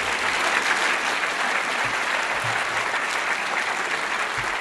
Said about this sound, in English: And I'd just like to ask for a round of applause as we conclude the talking portion of the debate.